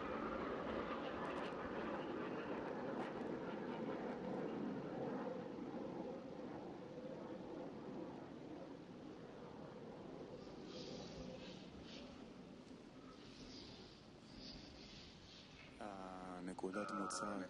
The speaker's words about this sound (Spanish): Estos ruidos que vimos en el fondo son aviones que pasan por arriba, parece.